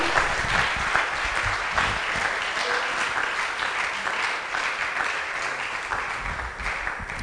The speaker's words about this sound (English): Oh, I thought you would have naturally clapped because I paused for you.